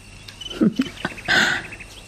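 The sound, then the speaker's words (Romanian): A nightingale sings at night a short phrase: a few quick chirps, then a brighter, sustained whistling trill, heard alone over a faint steady hiss with no voices. “Auzi? Privighetoarea. E ora la care începe să cânte.”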